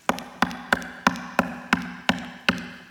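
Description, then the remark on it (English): Knocking on the wooden door of a house: about nine sharp, evenly spaced raps in a steady rhythm, clear, with no voices. “And it's got Jesus standing outside of a door of a house, knocking.”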